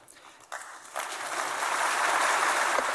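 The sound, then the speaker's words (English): Applause from an audience of German business people in Berlin, addressed by Greek Prime Minister George Papandreou, builds quickly from a few scattered claps into steady, dense clapping from a crowd, sustained and fairly loud. “If George Papandreou's audience had been made up of the German public, it might not have applauded.”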